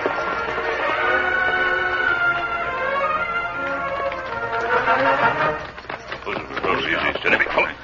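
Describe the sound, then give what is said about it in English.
Hooves of the Lone Ranger's horse Silver and Tonto's horse clop and thud unevenly for the last couple of seconds, moderately loud, as they ride in among the trees of the woods on a branch trail toward a small farmhouse, after a long stretch of steady tonal sound. “We'll ride in among the trees from here, Tonto.”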